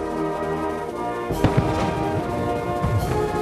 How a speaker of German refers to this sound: Und eine Kapelle spielt die Nationalhymnen Böllerschüsse aus Kanonen.